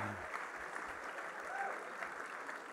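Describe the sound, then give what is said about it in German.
An audience claps steadily, a dense, even wash of many hands that holds at a moderate level throughout without clear peaks. “Spätestens jetzt wird das Klatschen weniger, alles wurscht.”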